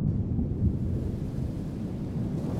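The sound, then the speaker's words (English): A deep, continuous storm rumble at sea with a rolling, thunder-like low roar and a faint hiss of rain above it, steady and fairly loud throughout, with no voices. “A moment where there is nothing but water and storm and sea.”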